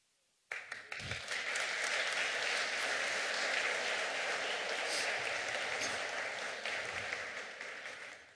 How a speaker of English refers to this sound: I hope you're applauding for the real Sister Mary Ignatius, who wrote those last few lines in 1942.